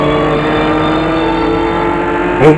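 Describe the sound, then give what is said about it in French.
A car driven at high speed into a lake, its engine roaring steadily at high revs, a loud continuous drone with a sharp burst of noise just before it ends; no one speaks. “J'enfonce la voiture dans le lac.”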